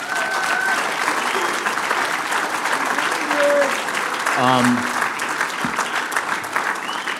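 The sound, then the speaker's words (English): A large audience applauds the committee steadily, a dense wash of clapping lasting several seconds at a constant loud level, with faint voices and whistles scattered through the noise. “Give your committee a round of applause, please.”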